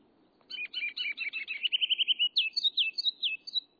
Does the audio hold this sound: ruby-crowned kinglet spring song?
yes